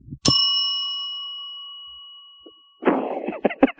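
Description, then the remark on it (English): A bell is struck once, giving a bright, clear ding whose tone rings on and slowly fades over a couple of seconds, followed by a short burst of voices. “I've also informed the guests not to talk over one another or engage in fisticuffs, lest I use my magic bell to shock them into better behavior.”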